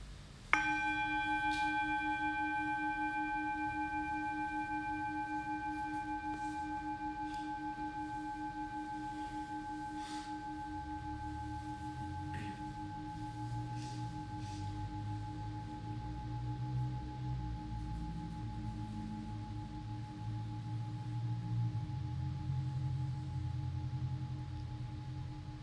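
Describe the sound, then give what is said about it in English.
A single strike of a meditation bell, rung once to start a forgiveness meditation, rings out, its clear, layered tones sustaining and slowly fading for over twenty seconds, with a soft low rumble underneath and no voices. “And I'll ring the bell once to start and three times when we're done.”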